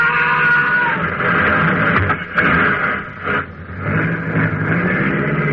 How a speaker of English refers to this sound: you ran over him. Sure. That's what I was trying to do.